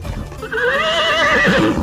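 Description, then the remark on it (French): A horse, stopped by its rider in a forest, gives a loud whinny, its wavering neigh rising and shaking for over a second after a brief low rumble. There is no talking. “sans doute au retour de la chasse, passe devant Yolande et arrête son cheval”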